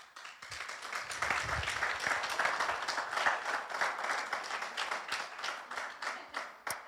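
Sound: light clapping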